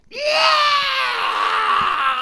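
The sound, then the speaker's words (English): A hideous screech from scary underground-dwelling creatures, a single loud, piercing shriek that rises sharply then wavers and slowly sags over about two seconds, harsh and shrill, with no talking. “And they all let out a hideous screech.”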